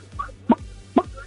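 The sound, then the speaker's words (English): A phone-in caller imitates a chicken, giving short, sharp clucks at a steady rhythm, about three bursts with faint vocal murmurs in between, fairly loud. “can you do an animal impression? I can. It's a chicken.”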